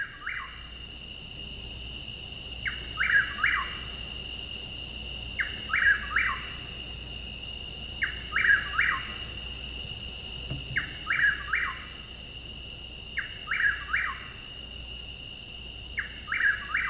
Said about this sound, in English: So we're going to spotlight on the chuckwill's widow, and we've got that vocalization right here.